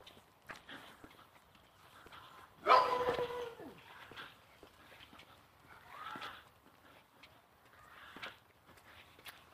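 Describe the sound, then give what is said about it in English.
A dog gives one sharp, fairly loud bark, with a few fainter yips scattered afterward over a quiet outdoor background of soft taps and clatter, on a cool Sunday morning in the 40s. “Bow wow wowed a couple times and then disappeared.”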